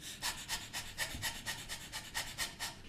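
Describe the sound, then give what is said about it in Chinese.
A person does the 'dog panting' breathing exercise for voice training, using abdominal breathing and actively pushing out each breath with the lower abdomen. The breaths come in quick, breathy huffs about four per second, a steady rhythmic series of airy puffs with no speech. “大家呢可以多多去练习狗哈气，来增强我们的小腹机能。”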